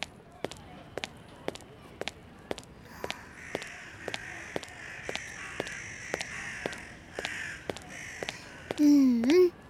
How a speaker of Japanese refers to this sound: カラスもよう鳴いとる。